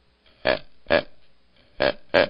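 A buck deer grunts four times, short guttural bursts arriving in two pairs with a brief pause between them, loud and rough against an otherwise quiet background.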